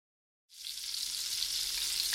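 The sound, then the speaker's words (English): Bacon from a Moink box sizzles in a frying pan in a kitchen, a steady crackling hiss that starts abruptly after a brief silence and holds at a constant level with no voices. “That, my friend, is the unmistakable sound of sizzling bacon.”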